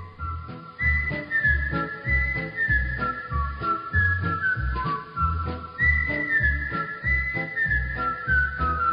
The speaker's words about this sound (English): But they loved it, and it became a critical part of the success of the Andy Griffith Show. And you can't go anywhere without somebody starting to whistle that theme at it. Composer and whistler Earl Hagen died on Monday.